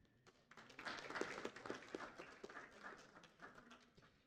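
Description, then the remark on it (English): An audience breaks into applause, a dense, steady patter of many hands clapping that swells briefly and carries on for several seconds, fairly soft. “I think it is you deserve another a round of applause.”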